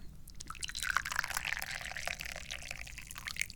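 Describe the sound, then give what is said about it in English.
Reddish-amber aged pu-erh tea pours steadily from an opened teapot into a teacup, a continuous splashing stream with a few brighter gurgles and drips, lasting a few seconds with no one talking. “Let's get a teacup over here. Let's open the teapot and let's do some pouring.”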